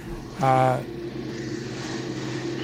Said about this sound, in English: I think I hear an airplane.